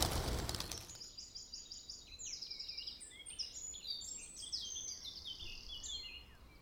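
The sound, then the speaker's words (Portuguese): A pigeon, being released, flaps its wings in a quick, loud flurry at the start as it takes off, followed by a steady chorus of small birds chirping and twittering in the background. No one speaks. “Vou soltar o pombo e nada de avançar nele, beleza?”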